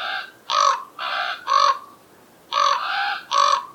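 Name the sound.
common raven calls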